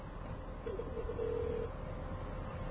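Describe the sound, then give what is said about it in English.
A telephone line rings once as a telephone call is placed: a steady, muffled electronic ringback tone lasting about a second, heard through a narrow, hissy phone connection with no one talking. “And as you can hear, the speaker has gone dead, and soon you'll hear the phone ringing.”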